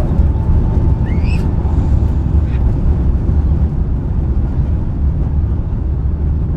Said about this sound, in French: Quand un avion décolle, que je suis dans l'avion. PNC, position décollage. Le jet, quand il passe au réacteur.